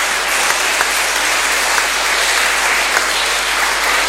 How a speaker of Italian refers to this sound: L'applauso comprende anche il maestro del coro, eh? Sì, è chiaro. Implicito.